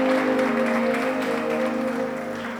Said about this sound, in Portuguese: Vamos aplaudir o Senhor, irmãos. Vamos aplaudir o Senhor. Glória a Deus. Glória a Deus.